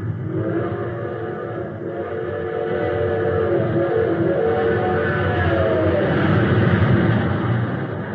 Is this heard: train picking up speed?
yes